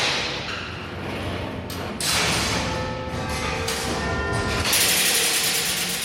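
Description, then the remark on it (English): Gearwork of the Big Ben clock tower turning as it comes up to the quarter-past-the-hour chimes, wheels and ironwork driving linkages up to the quarter bells: a steady grinding, rattling mechanical rumble with faint ratcheting clicks and thuds, swelling louder in surges partway through and toward the end, with no voices. “We're now coming up to the quarter past the hour chimes, with the wheels and the ironwork going round that go up to what we call the link room, and then they go up to the quarter bells upstairs.”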